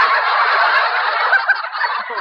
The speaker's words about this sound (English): Boy, a flock of them flew over that time.